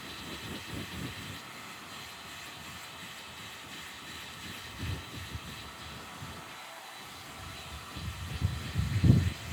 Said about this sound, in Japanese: お、ご主人、つむじがこっち回りだからこうやってドライヤーかけると変な癖がつきにくくなりますよ。